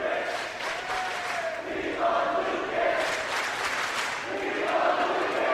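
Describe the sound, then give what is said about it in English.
A basketball crowd chants "We love Lucas" in unison for player Lucas Lee, with many voices rising and falling in a steady, repeated rhythm over a constant roar of arena noise. “The crowd is chanting, "We love Lucas."”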